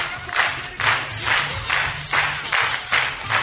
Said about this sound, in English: Golf claps.